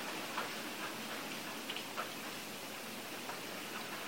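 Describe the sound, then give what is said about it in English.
Steady soft rain hiss with scattered light drips and ticks of rain dripping from the gutters at a temple on a rainy morning, irregular, continuing throughout at a quiet level with no voices. “So this morning here at the temple, a lovely rainy day, not as cold as it's been, and we can hear the rain dripping from the gutters, hearing the cars go by on the wet street.”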